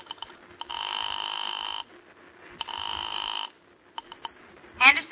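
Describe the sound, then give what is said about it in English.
A few quick dial tones as a familiar number is dialed, then two long buzzing rings on a telephone line separated by a pause, followed by more short tones and a brief click as the call connects. “Your hand is shaking as you pick up the phone and dial a familiar number.”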